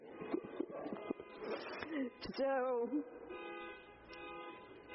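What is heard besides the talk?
car alarm going off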